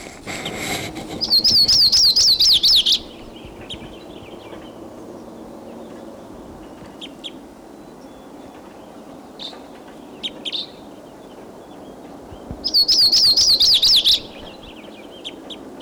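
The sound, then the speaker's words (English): A Type 2 crossbill in the tree above a truck chirps in two loud, rapid warbling bursts several seconds apart, with a few faint, brief calls in between over a soft outdoor background hum. “We're putting a wild bird.”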